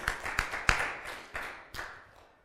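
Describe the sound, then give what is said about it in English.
A handful of sharp audience hand claps ring out at an uneven pace during a sermon, about five in all, each trailing off briefly before the next, with no voices speaking. “Give the Lord a hand clap for that, would you?”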